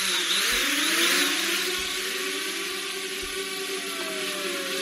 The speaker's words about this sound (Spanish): Bueno, sonaba un poco a Sierra Mecánica, parecía, pero lo que parece es un dron enorme, ¿no? Sí, y sí, sí, es que estamos en un dron y además te habrás fijado que no hay piloto, ¿eh? Aquí solo vamos tú y yo.